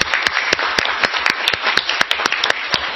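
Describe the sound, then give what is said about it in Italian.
Steady applause at a council meeting welcoming a newly and unanimously elected councillor, many hands clapping in a dense, irregular patter with sharp individual claps standing out, sustained at an even level throughout. “Benvenuto, allora applaudiamo al nuovo consigliere.”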